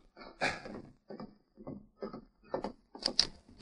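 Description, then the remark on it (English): A series of about seven muffled knocks on a wooden door at the Miller Ranch, coming in an uneven rhythm and fairly quiet, with no voices over them. “Miller was cleaning and oiling a gun when he heard a rap on the door.”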